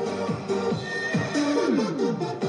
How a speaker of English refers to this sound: The city of Kangbashi, where on most mornings you can watch staff members of the local hotel do a choreographed dance to techno music sprinkled with horse calls.